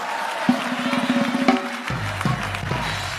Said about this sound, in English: Come on, you can clap hands for me for that.